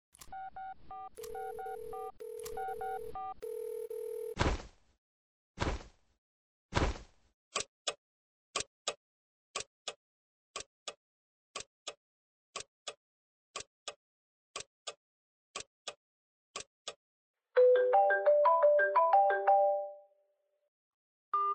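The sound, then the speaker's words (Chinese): Telephone tones on an outgoing call made from a borrowed mobile phone: steady touch-tone beeps, then a long run of short, evenly spaced electronic pulses, ending in a brief burst of warbling tones. No one speaks. “喂，老公，是我，我电话没电了，就借着同学手机给你打的电话。”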